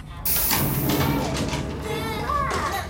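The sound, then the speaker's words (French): A door slides open after a switch is pressed, with a sudden, loud mechanical whoosh that sustains for a couple of seconds, while voices murmur faintly underneath. “Oh, regarde, un interrupteur pour ouvrir la porte.”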